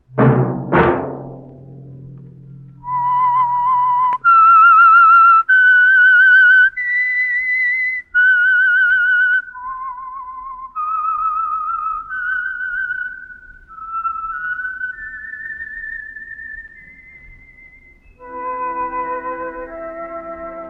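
A short hit of orchestral music, then a clear, loud whistled melody, the signature theme of the Signal Oil radio program The Whistler: a solo tune of sustained, pitched notes rising and falling over about eighteen seconds, with no talking.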